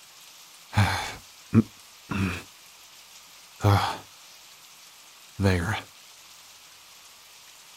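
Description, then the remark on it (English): A steady, soft hiss of rain runs throughout, with a few short vocal bursts like sighs or murmurs and a brief spoken word breaking through at intervals. “Just scoot over so I can at least get out of the rain a little bit.”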